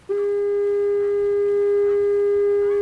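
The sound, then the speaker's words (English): A single steady electronic foghorn blast sounds loud, holding one unwavering pure tone with faint overtones from a sharp start through the whole stretch. It is the new horn at East Brother Island, about the size of a fire hydrant, powered by a small solar panel and a 12-volt battery. “That's the new horn at East Brother Island, which is a lot cheaper to maintain.”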